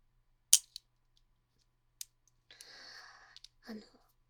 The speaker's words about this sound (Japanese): ちょっとボールペンで書くね。